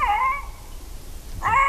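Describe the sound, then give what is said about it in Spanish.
A female lynx gives two short, harsh calls, almost like barks, separated by a brief pause. The calls are fairly loud over faint background hiss, with no talking. “Yo creo que esto es una gata, creo que es una lincesa. Casi un ladrido.”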